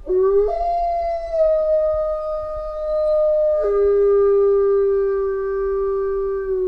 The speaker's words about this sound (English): And then what they would do is they would pick a wolf, take it out of the pack and sort of lead it away. And then they wanted to see what the other wolves would do. And the other wolves would howl and sound a little bit like this.